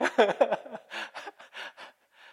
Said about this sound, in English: Oh man, all these Bible college students. You can hear the hissing and the heavy breathing.